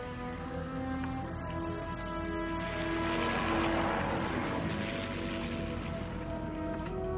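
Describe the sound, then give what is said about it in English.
A steady, droning propeller buzz from descending model airplanes fills the scene, its pitch shifting slightly as it swells a little louder midway and then holds. No one speaks. “Model planes descend.”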